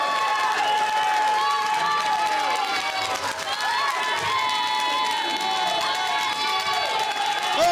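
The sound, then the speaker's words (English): The yellow team cheers and shouts nonstop, loud overlapping high-pitched yells and whoops blending into a steady excited roar for the whole stretch. “20,000 points to the yellow team for this cheering!”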